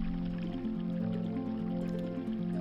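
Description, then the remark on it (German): Water trickles and babbles steadily, like a small stream splashing over stones, with a soft sustained tonal hum running underneath throughout. “Namenlos plätscherte ich vor mich hin.”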